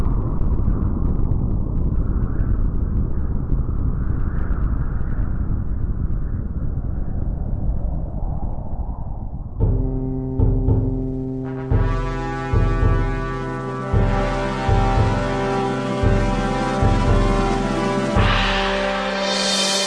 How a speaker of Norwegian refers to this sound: Yes, da har du kjørt i gang jingle, regner jeg med,